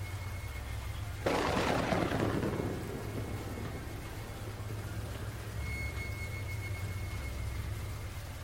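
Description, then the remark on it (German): Steady rain and wind over a low rumbling backdrop, with a sudden loud thunder crack near the start that rolls and fades over several seconds. No one speaks. “Nur der Regen und der Wind.”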